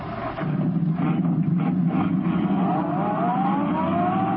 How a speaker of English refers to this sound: Turning onto the road, Britt pressed down on the accelerator. The sedan sped along the concrete after Brinkley's car.